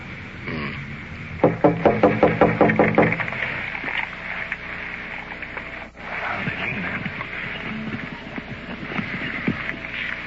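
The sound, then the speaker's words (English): A quick run of about eight firm, evenly spaced knocks on the door of a small, modest bungalow, a suspect's house, at first light of dawn, loud and sharp, over a steady low background hum. A soft muffled thump follows later, then only the hum. “Small bungalow, modest, couple of milk bottles on the step, sign on the door, absolutely no solicitors, do not knock.”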